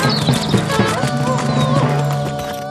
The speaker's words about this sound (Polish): To taki dźwięk kopyt końskich. Baranie. Ale przecież u nas nie ma koni. No właśnie, są tylko krowy.